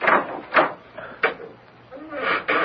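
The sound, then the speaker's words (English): A door at the top of a long flight of steps is unlocked with a key that doesn't always fit the lock and then opened: a handful of sharp clunks and rattling clicks spaced irregularly, with a soft scraping creak between them and a short thump at the end. “You may open the door.”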